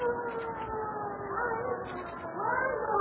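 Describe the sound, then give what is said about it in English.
A siren wails steadily throughout, its tone gliding up and down in long sweeps, fairly loud and continuous, with a muffled voice faintly audible underneath. “There's the siren, the signal.”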